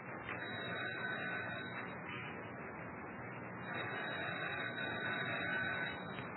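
A harsh, steady electric doorbell buzz sounds twice, each about one and a half seconds long with a short gap between, fairly loud and with no talking.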